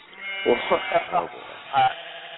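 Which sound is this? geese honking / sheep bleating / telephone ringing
sheep bleating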